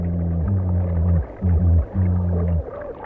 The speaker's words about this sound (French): Mais sous l'eau, c'est une autre histoire. Un mérou hurle des menaces. Des micros immergés rendent les sons audibles.